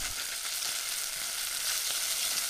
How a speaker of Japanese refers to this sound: 鍋にごま油、にんにく、生姜を入れて火にかけて、いい香りがしてきたら豆板醤も加えて炒めます。豆板醤はよく炒めた方が香りよく仕上がりますよ。